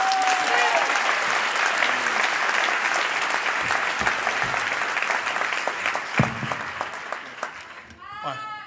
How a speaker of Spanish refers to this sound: Con ustedes, el aplauso, por favor